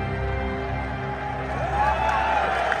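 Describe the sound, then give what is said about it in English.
A large crowd in a video cheers and claps in a steady, continuous roar while a boy keeps clapping, with a thin whistle-like tone rising near the end. “He's still clapping.”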